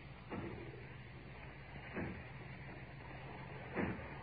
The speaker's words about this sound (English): Aye, I hear it. It's from the factory. Aye. As if they were breaking down the door. Aye. Yes, that's what they're doing.